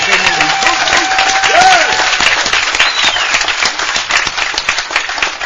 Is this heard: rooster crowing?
no